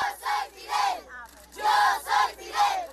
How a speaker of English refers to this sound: These children lined the streets of Santiago de Cuba shouting, "Yo soy Fidel," which means, "I am Fidel."